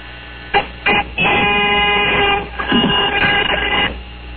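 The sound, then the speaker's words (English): A series of seven loud, brassy horn honks: two quick short blasts, then longer drawn-out honks run together. No one speaks over them. “I've got seven bark. Seven honks.”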